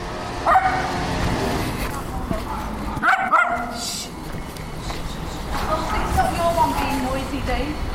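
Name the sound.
dog barking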